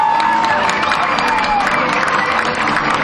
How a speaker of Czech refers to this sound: a já si dovoluju přivítat v Uherském Hradišti naše hostitele, zástupce města Uherské Hradiště. Potlesk pro Hradiště.